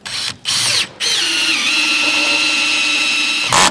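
A cordless screwdriver whirs in short bursts, stopping twice, then runs in one long steady drive with a high motor whine that dips slightly in pitch as the screw seats.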